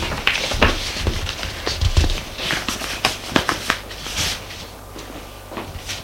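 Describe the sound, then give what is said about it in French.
A woman gathers and tidies her sheets of paper in her bedroom, with irregular rustles, crisp shuffles and a few light taps as sheets are stacked together. Nobody speaks. “Elle range ses feuilles.”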